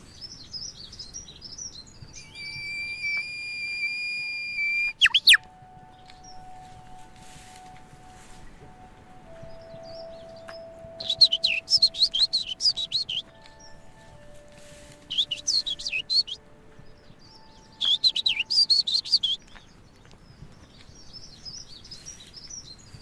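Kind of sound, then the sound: bird, bird singing overhead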